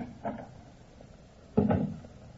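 The door to the Black Museum on the lower ground floor of New Scotland Yard creaks and bumps open: a faint wooden knock early on, then a louder, heavier thud with a brief low rumble of movement. No voices are heard.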